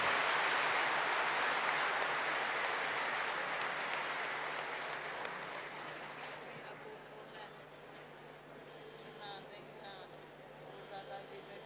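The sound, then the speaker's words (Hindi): A crowd claps loudly and steadily to thank Gulzar Dadi after hearing the murli, the dense applause gradually thinning and fading over several seconds into scattered, softer claps and room noise. “तो गुलजार दादी को थैंक्स दीजिए, जरा ताली बजाओ अपने तरफ से।”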